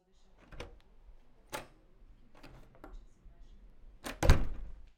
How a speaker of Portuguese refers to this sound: É a maçaneta de uma porta. Fantino abre e entra.